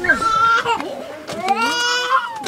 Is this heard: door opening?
no